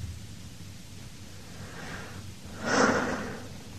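A single short, breathy cough bursts out near the end, moderately loud, over a steady low background rumble with no one talking.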